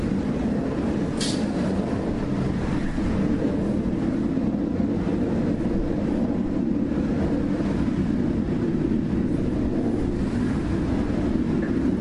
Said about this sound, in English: A lot of planes going to Lebanon today.